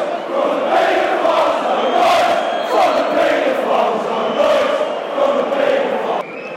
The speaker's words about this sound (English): No, great tackle by Martin. You can hear the roar of appreciation as we took to 70 minutes.